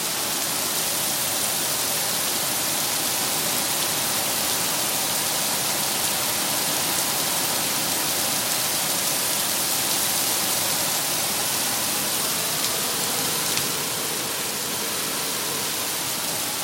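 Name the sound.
rain falling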